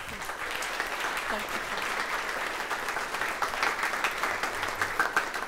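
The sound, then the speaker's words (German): A crowd applauds steadily for several seconds, a dense wash of many hands clapping at once, sustained without pause. “Grossen Applaus für dich.”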